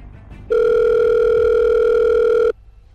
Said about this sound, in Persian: تلفن را برداشتم و به بچه‌های اتاق مانیتورینگ زنگ زدم.